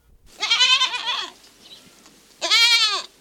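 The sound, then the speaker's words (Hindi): A goat bleats twice, each call a loud, wavering, nasal cry lasting under a second, separated by a short quiet gap. No one speaks. “कोई बाकरी नो धन नो आवाज हम जो हो इन्हें भी खुदा ने बनायू है।”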